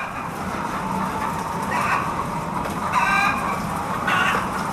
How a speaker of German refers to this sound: Ja, hier haben gleich Hühner das Wort, und zwar die Masthühner.